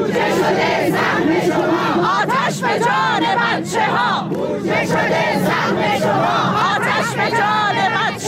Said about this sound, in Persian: در گردهمایی اعتراضی فرهنگیان بازنشسته در اصفهان، بنابر تصاویر منتشر شده در سایت‌ها و شبکه‌های اجتماعی، تظاهرکنندگان در اعتراض به فاجعه مرگ 4 کودک در آتش‌سوزی اخیر مدرسه‌ای در زاهدان فریاد می‌زدند: بودجه شده سهم شما، آتش به جان بچه‌ها.